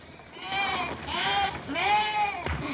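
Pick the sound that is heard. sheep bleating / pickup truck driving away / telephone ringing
sheep bleating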